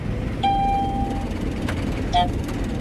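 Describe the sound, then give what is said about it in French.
A combine harvester engine drones with a heavy, steady low rumble as the engine is revved up while the cutting header is started and its spiked reel turns, joined early on by a thin high-pitched whine and later by a brief metallic squeal. “Je vais accélérer le régime moteur.”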